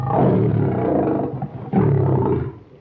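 lion roaring

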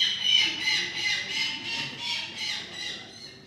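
falcon calling

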